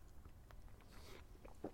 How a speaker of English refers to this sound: Quick slurp of coffee.